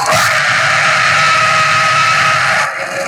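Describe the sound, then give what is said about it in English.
A special horn on a Ford Raptor truck, made to sound like a T-Rex, gives a loud, sustained roaring blast lasting about three seconds. It is harsh and raspy with a growling, beast-like tone that stays steady before easing slightly at the end. No talking. “He can even get a special horn that sounds like T-Rex.”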